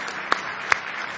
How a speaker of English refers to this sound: Oh, give him a big hand clap of praise. Oh, somebody say praise the Lord. Somebody say hallelujah. Now give him one more hand clap of praise.